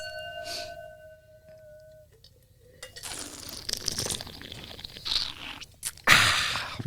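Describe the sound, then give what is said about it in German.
A glass rings out briefly, then wet slurping follows in several noisy, airy bursts as wine is drawn in and aerated during a tasting, ending in a louder gurgling slurp. “Wird geschlürft.”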